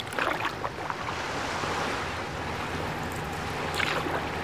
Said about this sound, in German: Heute sind so viele Boote auf dem Wasser.